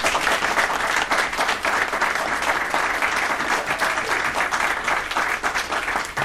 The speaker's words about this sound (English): really the staff that you've assembled to help you do this kind of work is just outstanding, and I think that you're owed a round of applause. Absolutely.